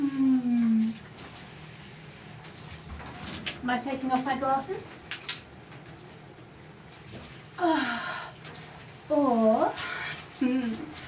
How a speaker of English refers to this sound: Was it because you know what a hot shower does to me? The feeling of the water just raining down, hitting my skin.